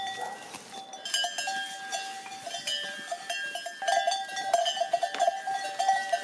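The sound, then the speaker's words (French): Many bells clank and jingle continuously as a goat herd moves about, the metallic tones overlapping irregularly at moderate volume, with no talking. “On a eu l'idée d'acheter quelques chèvres pour commencer à monter un petit troupeau.”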